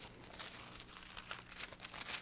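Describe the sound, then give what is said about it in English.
Soft, continuous rustling and crinkling of many Bible pages being turned at once as people look up 1 Thessalonians chapter 4, a diffuse papery shuffle with scattered brief flips, with no talking. “And while you're turning pages or punching buttons”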